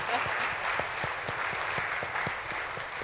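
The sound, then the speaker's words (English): An audience claps steadily for the government, many hands producing a dense, even patter of applause that holds at a fairly loud level throughout, with no voices standing out. “Go ahead, clap in them, clap in the government.”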